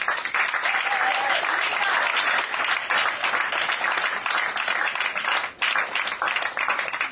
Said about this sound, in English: And I'm sure you'll be excited about it as we are. Please, a wonderful, wonderful round of applause